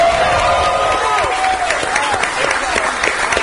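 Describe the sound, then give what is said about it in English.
A crowd at a rally at Jimmy's Famous Seafood cheers and applauds steadily, with whoops and raised voices layered over a dense wash of clapping, loud throughout. “Good crowd had gathered there yesterday, Jimmy's Famous Seafood,”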